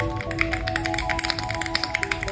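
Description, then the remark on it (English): Fast typing on a fully custom 65% gasket-mounted mechanical keyboard built on an EpoMaker Tide 65 with a PVD mirrored backplate and aluminum base, a quick, steady stream of crisp clacky keystrokes over a faint steady background hum and no talking. “What keyboard do you have, and can we have a sound test? So this right here is my fully custom keyboard.”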